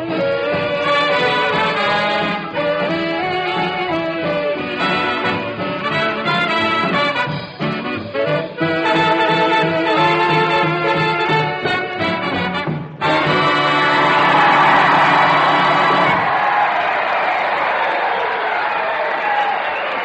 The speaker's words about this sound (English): Yes, sir, those are the cheers and that's the applause of tonight's audience. The veterans of combat at Percy Jones Hospital Center, Battle Creek, Michigan.